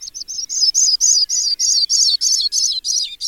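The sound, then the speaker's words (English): A Sprague's pipit, also known as the Missouri skylark, sings a steady run of about a dozen high, thin, tinkling notes, evenly spaced and drifting slightly downward, heard clearly with no voices. “In his book, Rare and Elusive Birds of North America, Connecticut naturalist and writer William Burt tells of the Sprague's pipit, also known as the Missouri skylark.”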